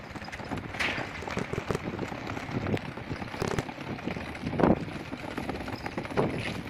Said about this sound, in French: La poussette que je pousse.